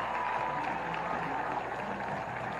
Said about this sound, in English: That's a nice round of applause.